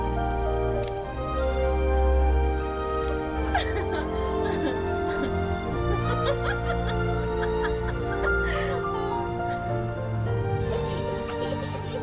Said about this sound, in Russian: И монеты одна за другой стали падать в шляпу Мюргета.